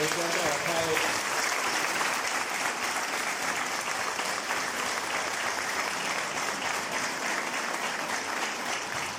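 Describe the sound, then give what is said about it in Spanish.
A crowd applauds steadily for several seconds for a former director general of primary education and a councillor, a dense wash of clapping that stays loud and even throughout, with a brief voice audible at the very start. “Quiero agradecer también especialmente a la ex directora general de educación primaria, inicial y primaria, la licenciada Teresita González de Tantesio, y a la consejera Nelly Arispe por estar aquí, para quienes pido un fuerte aplauso.”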